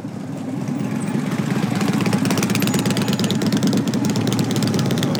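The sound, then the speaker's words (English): Motorcycle engines at the Bikes, Blues, and Barbecue Rally in Fayetteville, Northwest Arkansas, rumble steadily, a loud, continuous throaty growl with a rapid pulsing beat that swells slightly after the first half second and holds. No one speaks. “the roar of motorcycles is going to be much quieter this year”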